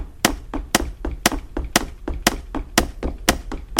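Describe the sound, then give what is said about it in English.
Radar scan cues from an audio game, scanning to the right from a second-floor landing: a steady train of sharp, tapping ticks, louder beats about twice a second with softer ticks between them, and no voices. “Let's scan to the right with the radar.”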